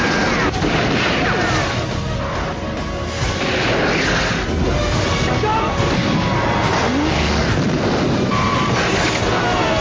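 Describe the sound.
A car engine roars and revs steadily as the vehicle drives, loud for the whole stretch, with rushing wind noise and indistinct voices mixed underneath.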